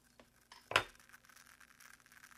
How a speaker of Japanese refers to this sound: この音が良かったです ね 炭酸が発泡する音ですね。